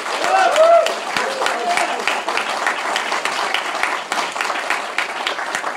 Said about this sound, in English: Can we give these guys a round of applause, please?